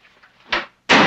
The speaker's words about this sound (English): Bloom jumps as the door is slammed.